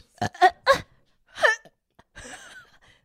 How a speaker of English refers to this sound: Let me get the last one. That's my OCD. Let me get the last burp.